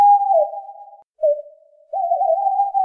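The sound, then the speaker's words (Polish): An owl, one of many roosting on a willow tree at a school, hoots in three drawn-out, tonal calls separated by short pauses, the last one long and wavering. The calls are clear, with no talking and a quiet background. “Sów na naszej wierzbie jest tak dużo, że niedługo to każdy uczeń będzie miał swoją sowę, jak w Hogwarcie.”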